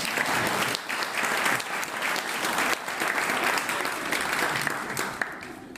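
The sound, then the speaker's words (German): A crowd gives a short round of applause thanking three people, clapping steadily for several seconds, a dense, even patter of many hands at a consistent loudness with no voices standing out. “Vielen kurzen Applaus.”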